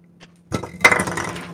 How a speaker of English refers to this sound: Sorry, I was just slamming down my bag of dice that I already own. I hear you. It's weird that your nutsack makes that sound.